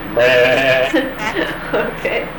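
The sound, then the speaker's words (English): A person imitates a sheep, letting out a long wavering bleat followed by a few shorter, shaky baa sounds, fairly loud. “What about sheep?”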